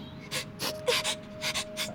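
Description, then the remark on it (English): Sniffling: a rapid, uneven series of short, breathy nasal intakes, about seven or eight in two seconds, over a faint steady hum, with no talking. “It would have been nice, peaceful even, were it not for the insufferable sniffling.”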